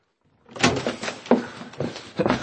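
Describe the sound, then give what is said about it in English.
The door to Mr. Inglethorpe's room is opened, with a series of rattling, clattering knocks as the handle and frame shift over a couple of seconds. No voices accompany it. “Let's hope his door's not locked.”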